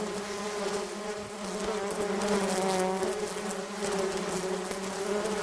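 insect, bees buzzing

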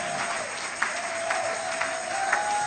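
crowd, hand clapping

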